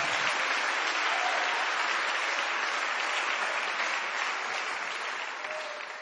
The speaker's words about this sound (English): Oh, you ought to clap your hands unto the Lord and thank Him.